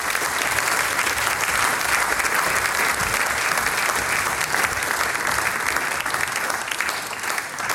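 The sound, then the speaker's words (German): A large audience in Unterlamm claps steadily and loudly as mayor Robert Hammer is called onto the stage, a dense, continuous wash of applause that holds at full strength for several seconds before easing slightly at the end. “Und das machen wir mit einem großen Applaus.”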